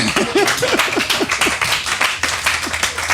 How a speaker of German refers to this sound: Müsst ihr alle mal klatschen, bitte.